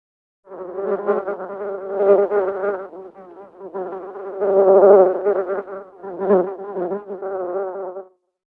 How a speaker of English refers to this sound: There's a bee.